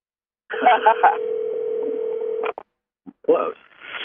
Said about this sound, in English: I'm calling your phone now. You don't hear it? I hear it. Is it in the car?